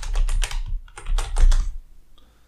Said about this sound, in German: Ja, such mal, du bist doch gerade so schön am Tippen gewesen. Such mal weiter hier.